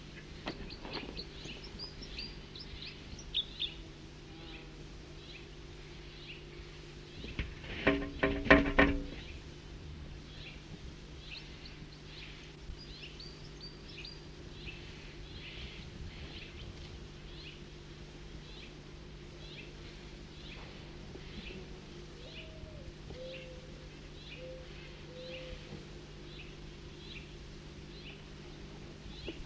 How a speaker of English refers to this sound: That was a flight call of the bird that was singing. Type 3.